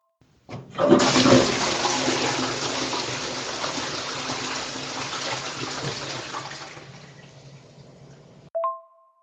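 A toilet flushes loudly and close by, a sustained rushing of water that slowly tapers off over several seconds, ending with a short clunk or tone. No one speaks.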